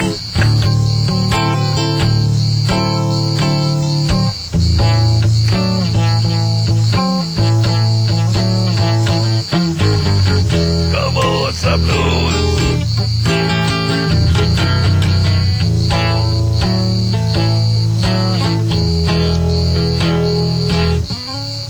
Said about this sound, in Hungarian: Hallgassuk meg A-kabócát.